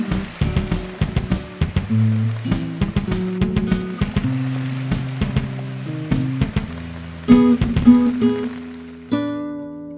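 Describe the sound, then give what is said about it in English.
Steady rain that has been falling for three days straight patters down on a hard surface, a dense, continuous spray of drops with a low droning hum underneath and a few louder splashes toward the end. “What's happening is that the rain is consistently coming down.”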